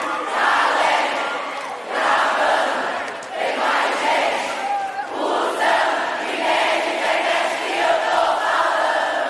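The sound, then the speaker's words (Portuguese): A large crowd shouts loudly together in rhythmic bursts, roaring in unison, pausing briefly, then surging again across the whole stretch, sustained like a packed arena singing along. “Todo mundo! Se o Wi-Fi! E nem é de internet que eu tô falando. Mais forte, mais forte, vai!”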